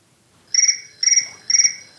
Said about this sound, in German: Oh, da schellt gerade das Telefon. Einen Moment bitte.